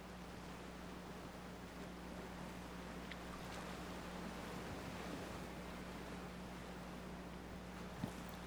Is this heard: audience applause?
no